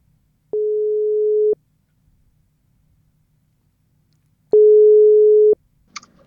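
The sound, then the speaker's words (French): Two long, steady telephone ringback tones, each about a second of flat mid-pitched beeping, separated by a few seconds of near silence, followed by a brief click, as a call is placed to a participant on one of the boats of a flotilla. “qui est sur un des bateaux et qu'on va essayer d'appeler maintenant.”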